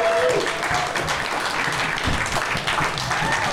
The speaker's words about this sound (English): Ladies and gentlemen, we have two special guests on today's show from the Do-Rag and Deer Tag podcast. Ladies and gentlemen, clap it up